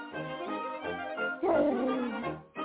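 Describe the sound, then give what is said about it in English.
A small dog barks and yips in a quick, excited string of about five sharp calls, fairly loud, with no one talking over it. “As me grandmother's dog named Kitten”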